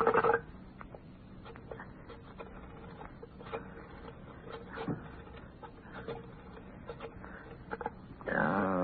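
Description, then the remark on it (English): A telephone being dialed by someone struggling to dial it: a steady run of small, sharp clicks at uneven intervals over a low hum, ending in a brief burst of rustling noise. No one speaks. “My finger's like a thumb. 7 9 0 8 No, I can't dial this thing.”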